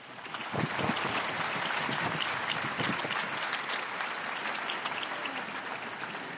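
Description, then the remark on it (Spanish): A large crowd applauds a newly beatified woman, the dense clapping starting almost at once and holding a sustained, roaring level throughout, with no voices standing out above it. “Un aplauso para la nueva beata.”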